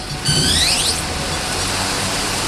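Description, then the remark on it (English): A quadcopter drone (UAV) with four helicopter blades and four spindly legs, shown off by Biafore, lifting off from the warehouse floor of a company hangar at Springfield Air Park: a high, whining motor tone sweeps upward for about a second, then settles into a steady, airy rotor hiss and buzz. No one speaks. “Biafore shows off a UAV that looks sort of like an insect with four helicopter blades and four spindly legs.”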